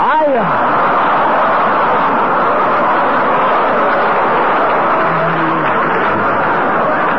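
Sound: car speeding away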